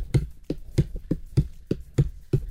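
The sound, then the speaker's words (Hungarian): A pointed knife chops rapidly on a wobbly cutting board in a steady, even rhythm, about eight sharp woody knocks in quick succession, clear with no talking. “Tedd oda a mikrofon. Hallgasd a tempót.”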